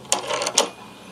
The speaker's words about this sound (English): And they're walking. And they open the front door.